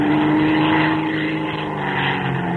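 A propeller airplane drones steadily as it flies, its engine a loud, constant buzzing hum with an even pitch and no voices over it.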